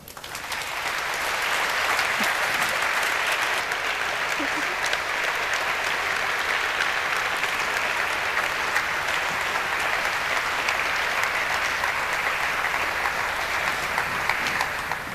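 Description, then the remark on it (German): Sustained audience applause at a camp, thanking the workers for their hard work: a dense wash of many hands clapping that swells in the first couple of seconds and holds steady at full strength for the rest, with no voices over it. “Und nochmal einen Applaus bitte.”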